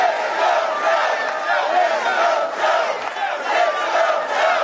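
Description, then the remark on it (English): A crowd of nearly 2,000 people at the first major Biden-Harris campaign rally chants "Let's go, Joe" and cheers in unison, a dense, steady roar of many voices with a loosely rhythmic rise and fall that stays loud throughout. “Those in attendance appeared to be excited for Biden's candidacy, with chance of 4 more years, and "Let's go, Joe" shouted in the room.”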